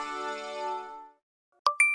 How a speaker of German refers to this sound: okay, wo gibt es die überall, wenn jemand was bestellt oder ein neuer Kunde da ist, könnte ja zum Beispiel irgendwie ein Kassenring kommen oder so. Und diese Hero-Momente sind der erste Indikator dafür, dass du jetzt etwas positiv vertont.